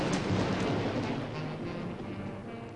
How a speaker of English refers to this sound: It was a dark and stormy night. Extremely Long Beach was wrapped in a gray shroud of rain.